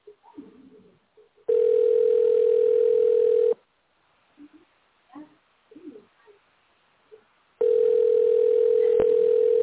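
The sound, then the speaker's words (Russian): A telephone ringback tone while calling the research and production association Gidrotekhproekt: two long, steady, mid-pitched buzzing tones, each about two seconds, separated by a pause filled with faint, soft cooing-like sounds. “Вы позвонили в научно-производственное объединение «Гидротехпроект». Дождитесь ответа.”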